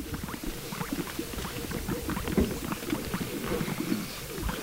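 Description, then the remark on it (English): Greater sage grouse at a breeding area give low, bubbly blooping and popping mating calls, many overlapping in a steady, busy chorus of soft pops with a faint airy hiss behind them. “We can't see the birds, but we can hear their blooping and popping mating sounds.”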